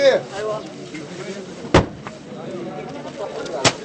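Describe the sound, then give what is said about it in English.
Two heavy, dull thuds land a couple of seconds apart as UN workers dump sacks of food off a convoy truck onto the ground in Abud, with a waiting crowd of residents murmuring and outdoor bustle in the background. “UN workers dump sacks of food off the truck onto the ground.”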